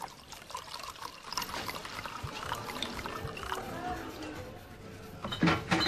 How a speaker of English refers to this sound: He finds Donna in the kitchen, pouring herself a large glass of wine.